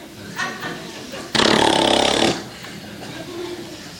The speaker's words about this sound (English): Oh, excuse me, folks, I have to... oh, the Kleenex is talking. You can't blow your nose on me.